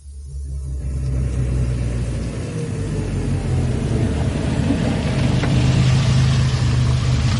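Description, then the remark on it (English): A small car, a Mini, approaches with its engine revving and rumbling, growing louder after a brief quiet start and holding a steady, throaty drone with no voices. “Nice little car.”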